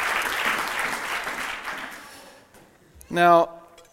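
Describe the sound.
An audience applauds in a dense, steady wash of clapping that gradually fades away, and then a single voice speaks briefly near the end.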